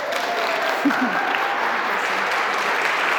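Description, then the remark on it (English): A church audience applauds steadily to welcome a person received into the church, a dense wash of clapping at an even level throughout, with a faint murmur of voices beneath it. “Will you signal your joy with your applause?”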